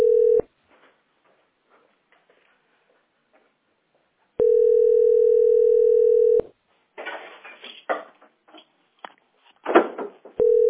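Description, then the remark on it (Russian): A steady telephone line tone sounds briefly, returns as a two-second hum after a quiet gap, then gives way to choppy, crackly bursts over the phone line while the caller is on hold in a queue. “Это меня там в очередь поставили.”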